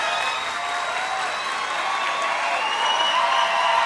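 A large indoor concert crowd fills the room with a steady, dense roar of overlapping chatter while waiting, the murmur holding constant throughout with a few faint tonal notes drifting above it.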